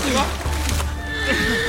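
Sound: horse neighing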